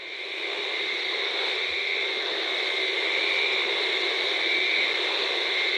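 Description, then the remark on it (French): A dense chorus of frogs calling all at once while mating in French Guiana, recorded by Thomas Tilly, merging into a loud, steady, hiss-like wall of high buzzing with no breaks and no voices. “Allez, on les écoute, les grenouilles.”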